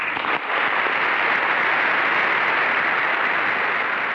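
Sustained applause from a large standing audience, a dense, steady roar of clapping that fills the whole clip at an even, loud level, with no voices standing out.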